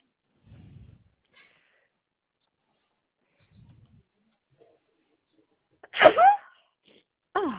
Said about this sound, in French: À vos souhaits.